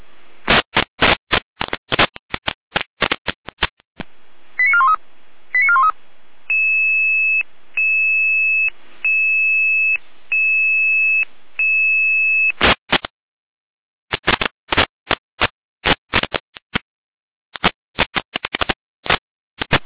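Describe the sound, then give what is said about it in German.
Radio dispatch alert tones from the Jena dispatch centre: harsh bursts of digital data chatter, then a run of steady electronic beeps repeating in even pulses, followed by more rapid data bursts. No one speaks. “Jena mit Alarm.”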